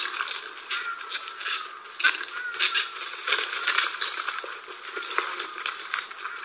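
A herd of wild boar, out of dense woodland and roaming a stream in search of food, trample and splash through shallow water, a steady stream of crisp, rattling splashes and scuffing footsteps that swell and fade over several seconds, with no voices.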